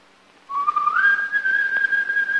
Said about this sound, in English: rounds his lips to whistle back, then shakes his head.